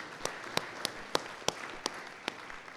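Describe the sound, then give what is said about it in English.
Brief, scattered audience applause: a handful of sharp, distinct claps at an uneven pace, roughly eight in under three seconds, standing out over a soft, steady wash of crowd noise. No one speaks. “The crowd wants to applaud today.”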